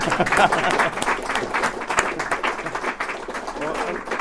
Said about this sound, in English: You give a round of applause. Come on.